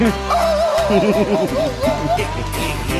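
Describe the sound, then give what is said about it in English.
A man's voice imitates a dog, barking like Rin Tin Tin, letting out a loud, continuous run of wavering yelps and howl-like barks, with no other talk. “Wanna hear me bark like Rin Tin Tin?”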